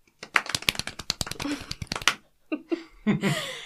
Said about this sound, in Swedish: Men idag så har ju vi faktiskt en gäst med oss. Applåder.